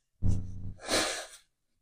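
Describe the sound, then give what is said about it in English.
A single loud nose blow: a short low honking sound followed by a rushing, hissy burst of air through the nose, lasting about a second, with no talking. “Pardon me while I blow my nose.”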